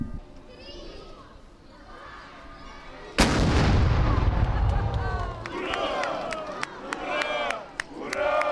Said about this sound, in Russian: Вскоре за громом пушки последовали свисты запускаемых ракет, вернее их моделей.